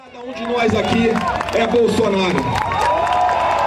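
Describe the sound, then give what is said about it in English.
A large crowd at a Bolsonaro political rally in Brazil roars and cheers continuously, many voices shouting together with scattered clapping, loud and sustained without pause for several seconds. “large crowds have come together for rallies, including in Rio de Janeiro.”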